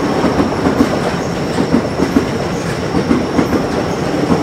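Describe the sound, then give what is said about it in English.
A crowded train rumbles past without stopping at steady speed, its wheels clacking over rail joints in a regular rhythm beneath a continuous loud roar, with a faint high whine above and no voices. “There's a train that's not going to stop. And that's really crowded.”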